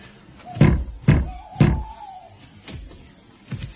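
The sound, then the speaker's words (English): Knocking on a wooden door: three firm, evenly spaced thuds, then two softer knocks after a pause, with a faint drawn-out tone between them and no talking. “But have it your way. Knock at the door.”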